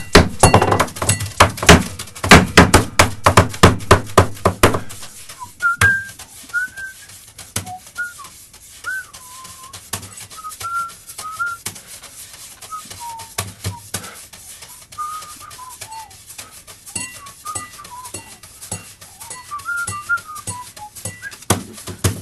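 A drummer rapidly drums on a studio tabletop and a glass, dense thumps and clinks at first, then sparser taps and chinks continuing under a wavering whistled melody.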